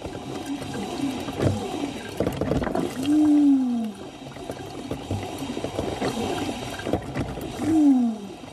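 A coffee machine named Susi, belonging to a man from Nuremberg, groans and gurgles as it is being descaled, with two long, falling moaning tones over a bed of bubbling, sputtering water noise. No one speaks.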